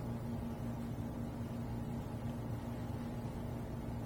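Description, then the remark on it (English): An aircraft inertia starter, engaged by pulling a wire with a ring connected to the starter clutch, whines in a steady, low mechanical drone with a constant humming tone, holding an even loudness throughout without any talking. “You'll probably remember possibly hearing that if you ever watch a World War II movie on television, because there's always a kind of a whining sound before they engage, and then it goes like that.”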